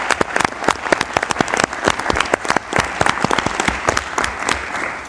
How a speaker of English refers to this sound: So let's have a round of applause in congratulating her for appointing for this position.